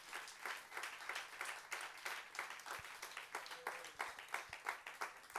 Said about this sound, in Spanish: ¿Cuánto le da un aplauso al Rey de Gloria en esta tarde?